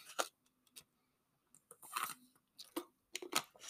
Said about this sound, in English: Excuse me. You know, I talk so much, I cough like that. Excuse me, get some water.